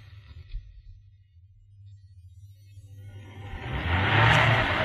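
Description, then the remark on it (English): A car's engine rumbles low and steady, then a broad rushing noise swells up loud over the last couple of seconds as the car moves and is pulled to a stop beside a call box. No one speaks. “What are you stopping the car for?”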